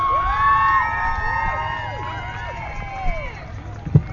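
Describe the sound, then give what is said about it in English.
A live music event audience cheers and whoops loudly as a performer is introduced, many overlapping high voices rising and falling in pitch over a steady bed of clapping and shouting, with a sharper burst near the end. “Right now, make some noise for”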